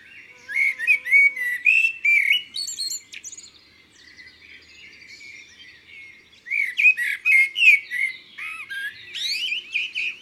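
A blackbird called Pirouite sings from the top of a cherry tree, a rich, varied song of fluting whistles and chirps, clear, in two long bursts separated by a quieter pause. No one speaks.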